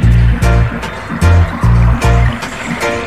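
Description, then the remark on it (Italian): Rushing, flowing water blends with a loud, throbbing bassline of repeating low notes and sharp rhythmic hits, forming a steady musical groove with no voices. “Che poi l'acqua mescolata con la baseline da questo senso che è un po' il rabadab di nuotare, no?”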